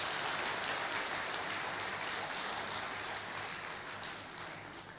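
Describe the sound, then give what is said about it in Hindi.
An audience applauds itself, clapping together in a dense, steady wash of applause that holds strong for several seconds, then thins slightly toward the end. No one speaks over it. “अपने लिए जोर से एक बार तालियां बजा लीजिए.”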